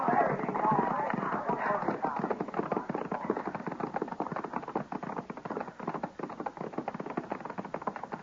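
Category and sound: animal, horse hooves clip-clopping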